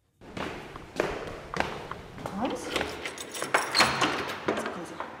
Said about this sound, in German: Maja Lasic schließt die Tür zum Vorbereitungsraum auf.